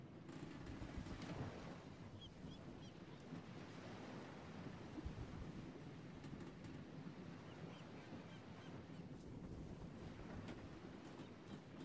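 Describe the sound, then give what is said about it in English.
Ocean waves roll and crest beneath a ship in a steady, continuous rush, a broad low roar with hissing spray swelling now and then, mixed with wind buffeting, and no voices. “Hear the waves cresting beneath you.”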